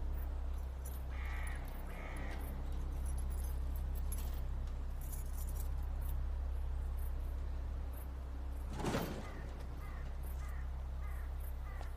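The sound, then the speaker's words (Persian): Keys rattle at a house door lock as a man opens it with a key and enters, followed by a short, sharp burst as the door is unlatched and pushed open, all over a steady low background hum with no voices. “حامد با کلید در رو باز می‌کنه و وارد میشه.”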